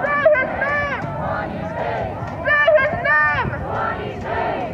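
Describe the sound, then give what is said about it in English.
A large crowd of protesters chants in unison on a street march heading south through Portland, many voices shouting together in rising, repeated bursts over a steady rumble of babble. “The march went on southward for about half an hour, chanting along the way.”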